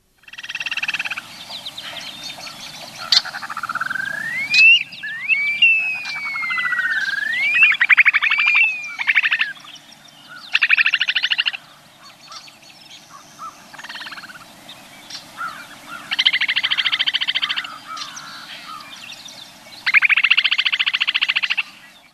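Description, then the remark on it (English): An upland sandpiper gives its long, slurred wolf whistle, several rising-then-falling whistled notes early on, set against a steady buzzing, pulsing chorus of frogs that swells in bursts throughout. “So, well, let me go ahead and play that upland sandpiper right now so people get a sense of that.”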